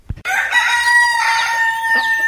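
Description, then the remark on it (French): A rooster crows loudly, one long sustained cock-a-doodle-doo lasting about two seconds, preceded by a brief low thump. “Non, parce qu'il faut un coq.”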